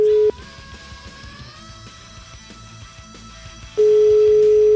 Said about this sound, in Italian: Facciamo squillare sto telefono.